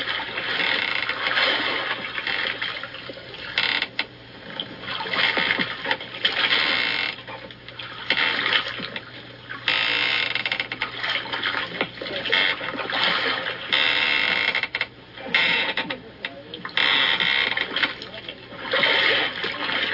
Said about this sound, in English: They even resort to rowing.